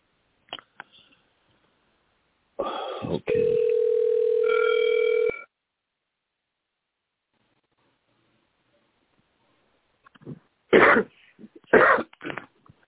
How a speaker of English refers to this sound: Oh, yeah, there's somebody coughing. You're coughing. And you got that cough.